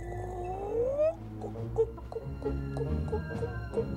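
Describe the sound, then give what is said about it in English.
A woman's voice imitates a chicken from her bunk in a camp hut: a rising, squeaky call followed by a series of short, irregular clucks, moderately loud, with no talking. “makes chicken noises from her bunk.”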